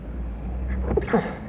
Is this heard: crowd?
no